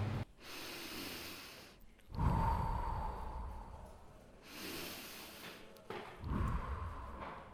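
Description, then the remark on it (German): Slow, even breaths during a yoga session combined with beer drinking in a beer shop, drawn in and let out in a steady rhythm. Inhale and exhale are equally long, each lasting about two seconds, fairly loud, with no talking. “Lass den Atem gleichmäßig werden. Die Einatmung. Gleich lang die Ausatmung.”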